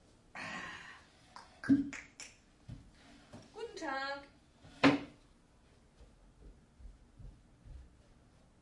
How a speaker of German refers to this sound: Und jetzt mache ich die Tür wieder auf.